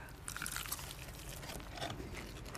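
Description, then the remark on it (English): Crunchy Korean fried chicken from a Korean chicken place in Ponsonby Central being chewed, a run of crisp, crackling bites with irregular bursts of brittle crunching and wet mouth sounds, fairly quiet and with no talking. “So I went to this Korean chicken place in Ponsonby Central.”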